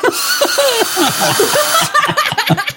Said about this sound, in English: Oh, that drill. How long have you had that drill next to your computer just so you can make a joke like that?